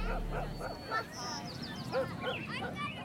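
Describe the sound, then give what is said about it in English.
A dog barks in a string of short, yappy bursts, with a brief high chirp cutting in partway through. “For example, taking a walk while you listen to music can be amazing, but it also takes away the sound of the robin, the neighbor's dog, and the community you live in.”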